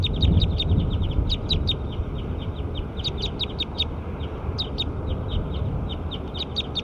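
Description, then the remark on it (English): Bird number 7 calls in a rapid, steady series of short, high chirping clucks, repeating evenly throughout over a constant low rumble of background noise. “Pointed bird 7.”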